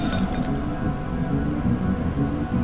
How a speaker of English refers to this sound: And just when I thought I might pass out, and the edges of my vision went red, the TV screen cracked.